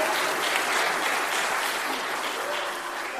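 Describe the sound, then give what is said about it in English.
The Plymouth church audience applauds after the acting associate minister says this is his last sermon, a dense, steady wash of many hands clapping at an even level throughout, with no voices standing out above it. “I've already reached my quota of applause for the year, so we have to leave it at that.”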